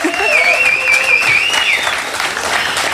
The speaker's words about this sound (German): Die freuen sich so, die hätten auch noch 5 Minuten geklatscht. Es fühlt sich so schön an, hier zu sein und mal wieder Applaus und Leute und echt und live.